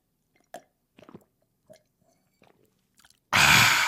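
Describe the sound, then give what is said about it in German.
Close-up drinking: several brief, wet gulping and lip-smacking sounds spaced about half a second apart, followed by a sudden loud, breathy rush of noise at the end. “Ja, das bedeutet auch, und das habe ich auch aus anderen Podcasts, dass man mal irgendwie was trinken muss zwischendurch. Das hört sich dann so an.”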